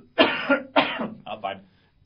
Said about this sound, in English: We need someone that could just cough off mic every now and again.